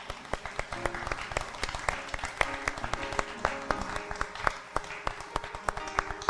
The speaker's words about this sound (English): Come on, give the Lord a hand, man.